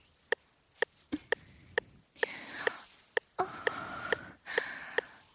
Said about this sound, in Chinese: 我的喘息声好听吗？想不想就这样听着我的娇喘声